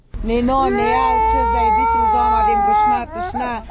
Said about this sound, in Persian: 41 ساله کندوزی زن آواره‌ای که گریه کودک 3 سالش از گرسنگی مجال صحبت را نمیدهد